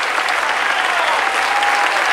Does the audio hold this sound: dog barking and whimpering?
no